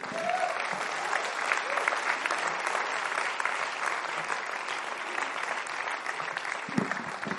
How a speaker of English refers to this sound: Let's give the Lord a hand clap now. He's been good to us.